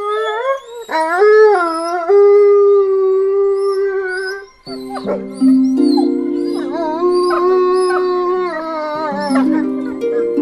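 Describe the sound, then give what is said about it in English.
A grey wolf lets out a long, rising howl that holds steady, then several more wolves join in with overlapping, wavering howls, loud, forming a continuous chorus with no talking. “And with recent calls for wolves to be reintroduced into Ireland, almost 250 years after the species became extinct here, today, Mooney Goes Wild looks at the grey wolf.”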